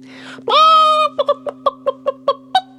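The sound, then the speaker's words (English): A little red hen gives a drawn-out, nasal squawk, then a quick run of about eight short, evenly spaced clucks, fairly loud over a faint steady hum. “Well, he hadn't gone very far, in fact, at the first bend in the road, when who should he meet but a little red hen?”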